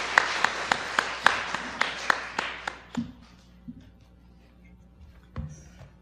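A small audience applauds in sparse, distinct claps for about three seconds, then the clapping dies away, leaving quiet room noise and a few faint shuffling sounds.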